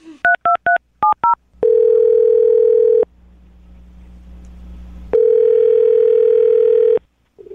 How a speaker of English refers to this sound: All right. I'm going to dial the phone number right now, see if we can get her on the phone and get your wallet back, okay?